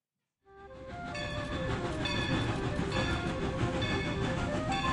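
A steam train of the historic Cumbres and Toltec Scenic Railroad, running between Antonito, Colorado and Chama, New Mexico, rolls along the tracks, its loud, steady rumble rising in after a brief silence, with sustained high metallic tones ringing above the churning noise. No one speaks.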